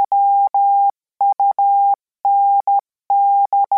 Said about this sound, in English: Morse code, the signals of dots and dashes that served as the first transmissions in the days before wireless, is still around, though not employed much these days.